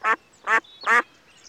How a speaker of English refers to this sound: Are they your ducks?